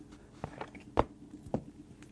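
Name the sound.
stomping footsteps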